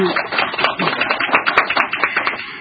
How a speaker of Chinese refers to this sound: 不如我哋先俾啲掌声佢哋。